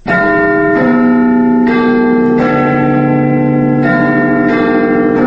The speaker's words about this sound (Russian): Название «Биг Бен», «Большой Бен», в наше время относят к колокольной башне высотой в 61 метр, ставшей частью архитектурного ансамбля британского парламента. Однако первоначально так называли лишь большой 13-тонный колокол, установленный внутри башни